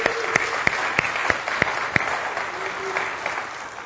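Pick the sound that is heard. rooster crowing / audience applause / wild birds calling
audience applause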